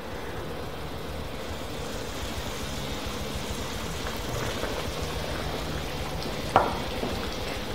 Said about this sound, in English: So our chicken Kiev has been sitting in the fridge and it's now time to deep fry it. And be careful, it's a huge chicken breast.